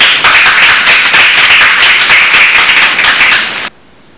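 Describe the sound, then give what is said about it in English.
People at a city council meeting break into loud, steady applause after a unanimous 6-0 vote, many hands clapping in a dense rapid patter that holds for about three and a half seconds before stopping abruptly. “One of those rare occasions when you can clap sort of almost off the cuff for city council”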